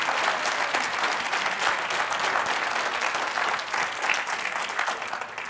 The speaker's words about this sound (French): Alors, premier candidat, qui est une candidate aussi. Alors, on applaudit, quoi, évidemment. Hein, voilà, c'est ça le but.